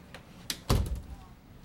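A man leaving a conference room swings the door shut behind him: a light click followed by a solid, muffled thud that fades quickly.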